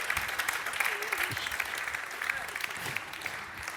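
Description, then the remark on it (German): A live audience claps steadily in a dense, continuous burst of applause for a four-time Austrian champion, moderately loud, with a few faint voices murmuring underneath. “Applaus.”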